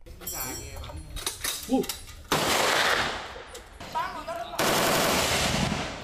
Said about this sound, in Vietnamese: Những du khách này có thể leo và chui qua những lối đi hẹp và thử bắn tại một trường bắn, sử dụng các loại vũ khí thời chiến như AK-47, M16 và súng máy M60 được lính Mỹ gọi là con heo vì kích thước đồ sộ và tốc độ bắn cao.